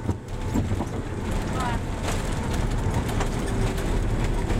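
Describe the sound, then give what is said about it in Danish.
A loud, steady roar of a charter plane touching down in Cuba, its wheels gripping the runway as the pilot brakes, with deep rumbling and rushing noise that fills the whole stretch without letting up. “Hjulene bider i landingsbanen. Piloten bremser charterflyet.”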